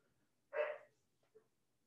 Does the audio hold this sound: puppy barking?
yes